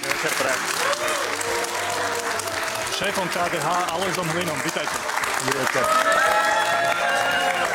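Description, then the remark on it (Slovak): Steady, dense applause from supporters of both politicians at a televised political debate, the camps of the Smer party and of Mr. Hlina of KDH, with a rhythmic, almost chanting quality, while a man's voice speaks over it briefly. “No a tento melodický potlesk sme počuli od táborov podporovateľov obidvoch politikov.”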